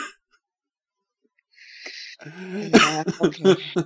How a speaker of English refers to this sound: Sorry, now I'm coughing.